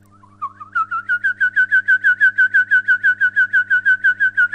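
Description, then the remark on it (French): A person whistles an imitation of a Eurasian wryneck's song: a fast, even series of about twenty loud, slightly nasal notes around the same pitch, with a low steady hum underneath and no talking. “Je pourrais imiter le torcol fourmilier, là, qui chante toujours.”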